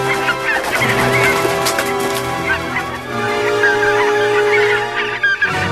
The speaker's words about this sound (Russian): Ну, летите сюда, лебеди, летите, гуси. Ваша помощь нужна. Послужите здесь последний раз.